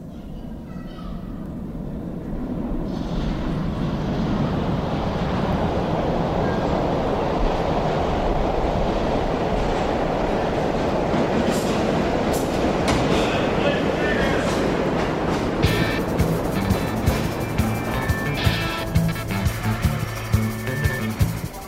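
A train rumbles past on the rails with a steady, broad roar that holds fairly loud throughout, joined near the end by a quick, rhythmic clacking of wheels over the track joints.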